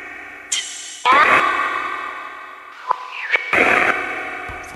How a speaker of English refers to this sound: I heard a cat. Put the cat on the line.